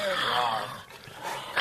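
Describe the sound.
Voices imitate a tiger's roar on command with a drawn-out, growly cry, strongest at the start, then trailing into quieter, rougher rasps with no actual words spoken.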